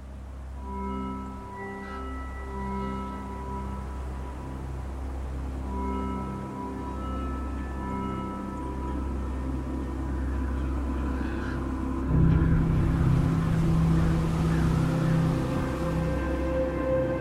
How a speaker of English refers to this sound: we're going to hear that Three-Eyed Raven theme yet again. We first heard it in Season 4. Now we're hearing it more associated with Bran because he essentially is the Three-Eyed Raven, right? I'm talking about this.